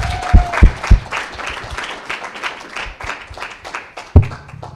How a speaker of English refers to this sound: We should give her one more round of applause for being president.